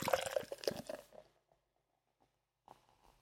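A freshly opened drink fizzing and foaming: a bright hissing rush for about a second that fades into faint scattered crackles, then a short soft burst of fizz returns near the end.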